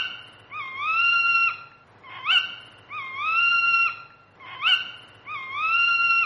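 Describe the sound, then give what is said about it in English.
An owl screeches three times in a row, each cry a drawn-out, harsh wail about a second long with brief pauses between, loud with no voices present. “An owl with glowing eyes threw 3 times around her and screeched 3 times.”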